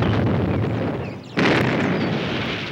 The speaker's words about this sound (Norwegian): Pass dere nå! Søk dekning! Klar for sprengning!